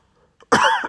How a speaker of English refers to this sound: Please hold on a second while I cough.